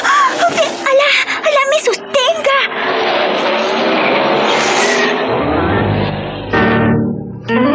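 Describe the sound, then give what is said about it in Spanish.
A motorcycle engine revs with rapidly rising and falling pitch, then settles into a loud, sustained high-speed roar with a deep rumble toward the end, continuous, as the motorcycle races at over 350 km/h through the streets of downtown Cairo, Egypt. “Los transeúntes del centro de la ciudad de El Cairo se han visto sorprendidos por los motores que cruzan por las calles como centellas desatadas.”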